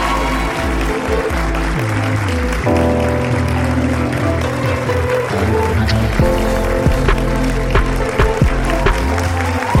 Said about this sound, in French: Écoute, faites un tonnerre d'applaudissements.